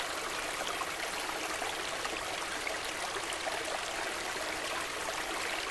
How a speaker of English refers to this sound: So I love all water. I particularly love the sound of running water.